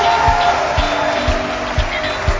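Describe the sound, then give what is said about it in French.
A loud, dense wash of audience applause and cheering in the amphitheatre of the University of Kisangani, Democratic Republic of the Congo, at a live broadcast of the magazine show Okapi Service, with steady low thumps beating about twice a second underneath, like rhythmic stomping or a drum. “Sous vos applaudissements, le maximum de bruit.”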